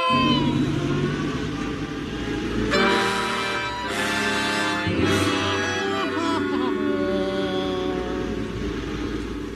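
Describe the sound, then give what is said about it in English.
A refrigeration van's engine drones steadily as it bumps along in 130-degree heat, with a couple of louder revving surges midway, rumbling throughout with no talking. “As the refrigeration van bumped along, folks, the heat outside was 130 degrees.”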